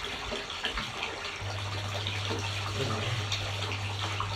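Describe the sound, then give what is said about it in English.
Tap water runs steadily into a bathtub, a continuous rushing hiss with no pauses; a low, even hum joins in partway through and holds to the end. “I'm just waiting for this water to top up, listener.”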